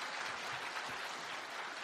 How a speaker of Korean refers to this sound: 난 누군지는 모르지만 그 목사님 진짜 대단해. 그죠? 그 목사님에서 박수 한번 쳐주세요.